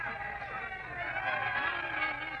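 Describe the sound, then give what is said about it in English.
A steady murmur of many voices at an outdoor gathering blends into an indistinct crowd babble, even in loudness, with no single speaker standing out. “Come and listen for yourself, Mr. Worcester, where that crowd is.”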